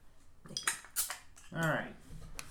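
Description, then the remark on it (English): Glass clinks a few times, then beer, a 2016 triple hop from the Duval Brewery, pours into a glass with a brief rising, gurgling tone that fades within a second. “Here, pour your own damn glasses of beer.”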